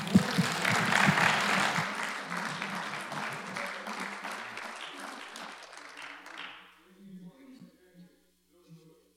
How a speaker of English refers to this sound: He's giving us the message this morning. You can give him a clap.